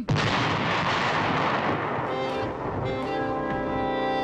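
A loud, dense barrage of gunfire and cannon blasts from American troops in battle with Lord Cornwallis's forces rumbles continuously, with overlapping shots blending into a roar; faint English horn tones creep in toward the end.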